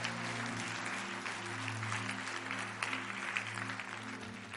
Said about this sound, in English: If someone has found that to be true, can I get an amen? Can I get a hand clap?